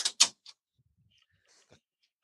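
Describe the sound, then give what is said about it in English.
An office door shuts: two quick, sharp knocks of wood and latch, then a softer click or two as it settles. No one speaks. “I'm going to close the door, and they're going to stay out.”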